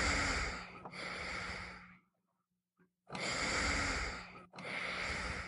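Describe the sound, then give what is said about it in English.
A portable ventilator, the breathing machine behind the seat of a motorized wheelchair that keeps a young man with muscular dystrophy alive, whooshes in steady bursts: a long airy rush, a brief pause, a short near-silent gap with a faint click, then two more full whooshes. No one speaks. “The machine's whoosh punctuates his presence in the room.”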